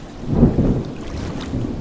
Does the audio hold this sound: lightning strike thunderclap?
yes